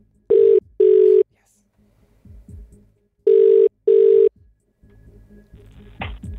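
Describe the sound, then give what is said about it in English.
A telephone rings down the line on a call placed by the Hit Breakfast radio show, with two pairs of short, steady, mid-pitched electronic tones separated by a pause. Faint low murmuring and rustling fill the gaps between rings. “Is it ringing?”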